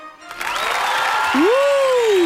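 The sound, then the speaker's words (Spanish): A studio audience on a Chilean TV show breaks into steady, dense applause for the 'test de actualidad' segment. The applause starts abruptly and holds throughout, with a bright whooping tone swooping up and down over the clapping near the end. “En un país generoso, fuerte el aplauso.”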